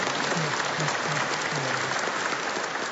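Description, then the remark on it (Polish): An audience applauds for the Mother of God, a steady, dense wash of clapping hands holding an even, fairly loud level throughout, with no voices standing out above it. “No, brawa.”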